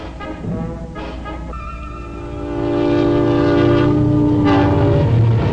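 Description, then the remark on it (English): A night train from the city rumbles past with a long, loud horn blast sustained over the low rolling rumble of the cars, building louder as it draws near. “It is the night train from the city.”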